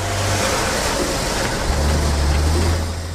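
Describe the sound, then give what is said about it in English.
A heavy truck with a refrigerated hold and soldiers aboard rumbles loudly with a steady low engine drone and broad roar, easing off slightly at the end as it drives away. “As it drives away.”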